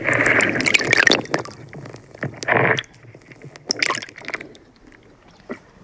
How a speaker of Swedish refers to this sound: Ja, just nu är det tyst. Man hör lite vågskvalp och lite från bryggan här.